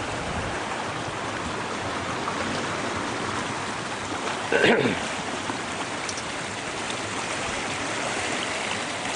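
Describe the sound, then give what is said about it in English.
A small waterfall on a creek with big rocks rushes steadily, a dense, continuous splashing wash of water, with a brief louder burst partway through. “There's a waterfall.”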